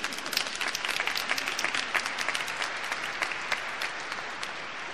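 A crowd applauds steadily for several seconds, a dense patter of many hands clapping at once at moderate volume, with no voices standing out above it.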